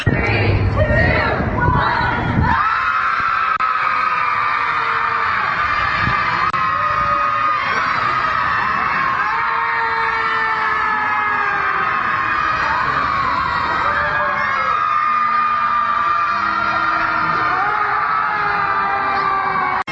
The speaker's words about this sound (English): Tonight, thousands of people in cities across the country will scream helplessly at the sky 1 year after the election of President Donald Trump.